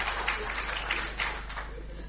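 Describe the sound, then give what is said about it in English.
An audience claps for a preacher steadily for about two seconds, a dense, even patter of many hands with no voices over it. “It's amazing what preachers will do for a clap, isn't it, nowadays?”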